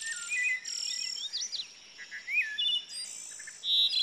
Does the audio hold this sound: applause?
no